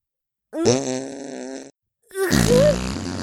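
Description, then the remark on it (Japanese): Two loud farts, each lasting about a second and separated by a short pause; the first is a steady buzzing blast, the second rougher and wavering in pitch. “これは もっと、もーっと、私のおならを嗅がせて、きちんとしつけてあげますからね。”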